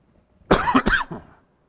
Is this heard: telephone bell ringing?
no